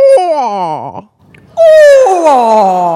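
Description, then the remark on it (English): A human voice imitates a barred owl's call: two loud, hooting phrases that waver and slide downward in pitch, separated by a short pause, ending in a drawn-out descending wail. “So if you have a woodland near you where you're hearing barred owls, if you go out and listen and you mimic the same thing back to them, they will often call back to you.”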